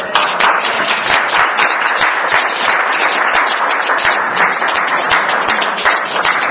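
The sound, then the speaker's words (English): A crowd at a meeting applauds two departing members, many hands clapping at once in a dense, loud patter that holds at an even level for several seconds with no voices over it. “So maybe we could give them both a round of applause.”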